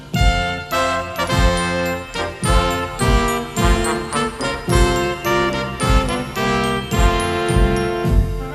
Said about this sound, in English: Christmas bells play loud and strong, hurts my ears all that ding dong. Besides it goes on much too long.